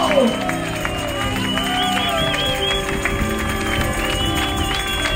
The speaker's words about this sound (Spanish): Si usted es uno de esos, por favor, den un aplauso fuerte a Cristo.